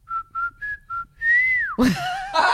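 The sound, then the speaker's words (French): Someone whistles an imitation of a blackbird's call: four short, clear, evenly spaced notes, then a longer high note that bends downward, ending in a rough, noisy burst. “un bruit très précis que je peux vous reproduire aujourd'hui d'un oiseau que j'ai identifié signe qui était vie, un merle vie, noir.”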